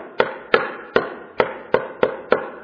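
At 2 a.m., a drunk roommate fumbles his key at a door lock, trying to find the keyhole, striking the plate in about eight sharp, clicking taps at a loose, uneven pace that quickens toward the end. No one speaks.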